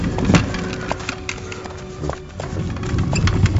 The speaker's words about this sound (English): As for our powerful masters, they drive horse-drawn war chariots.